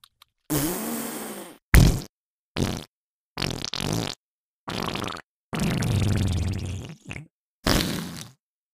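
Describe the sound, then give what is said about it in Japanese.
A string of loud farts, about seven separate blasts of varying length, some short and sputtering, a couple long and drawn out, with brief silences between them and no talking. “人前でしちゃいけないような汚いおなら出る。”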